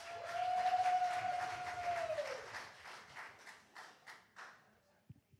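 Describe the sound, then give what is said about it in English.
An audience applauds to welcome the senior pastor to the stage, a dense, sustained wash of clapping that gradually thins into scattered individual claps before fading out. A steady held tone sounds over the early part. “Let's applaud some maturity and give honor to the face of this old man as we welcome our senior pastor,”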